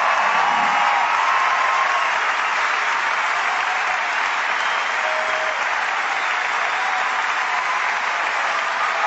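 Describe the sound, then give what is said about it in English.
A large audience claps steadily and loudly for about nine seconds, calling for an encore: a dense, continuous wash of applause with no break and no one speaking over it. “You don't get encores in other professions, do you?”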